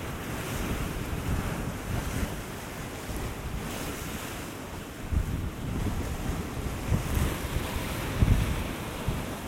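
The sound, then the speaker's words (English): Rough, raging waves of cold, foamy salt water churn and wash in a steady roar. Gusty wind rumbles across the microphone, and a few heavier surges break near the end. No one speaks. “I don't want to get really cold, foamy salt water.”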